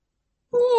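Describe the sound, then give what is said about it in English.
After a moment of silence, a single clear meow begins, a voice imitating a white cat in an English listening exercise, with a steady, slightly falling tone, fairly loud, cut off at the end. “This is a white cat.”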